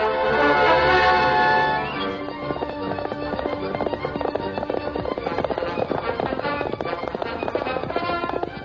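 Rapid, steady hoofbeats of the Lone Ranger's horse Silver galloping at breakneck speed at sunset pound along for several seconds, following a brief sustained, tonal sound at the start; no one speaks.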